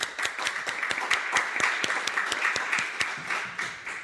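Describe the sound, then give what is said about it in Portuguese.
Steady applause from an audience, many hands clapping at once in a dense, continuous patter with sharp individual claps poking through, holding fairly even in loudness for about four seconds. “Muito obrigada. Palmas.”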